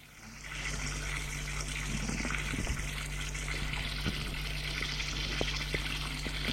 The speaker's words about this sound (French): Il décide de prendre une douche pour se réveiller. Il se déshabille en vitesse avec le peu de force qui lui reste, en jetant les vêtements à terre et court dans la salle de bain. Il prend une douche.